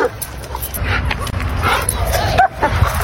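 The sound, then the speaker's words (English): A dog barks and yips amid a noisy outdoor scene, with agitated voices and background commotion; the barking is moderately loud and intermittent over constant low rumble. “This is what happens when they have no control over their dog.”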